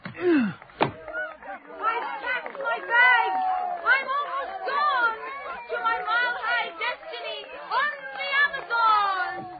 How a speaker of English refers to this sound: Look at the crowd waiting for him at the station. Look how the crowd parts for him. Like Moses and the Red Sea.